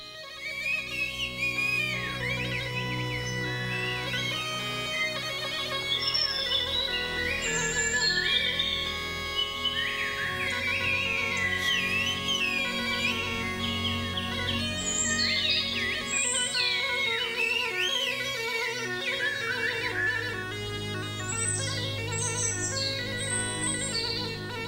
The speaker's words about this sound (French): La France est l'un des rares pays au monde qui possède une langue qui ne se parle pas, qui ne s'écrit pas, mais qui se siffle.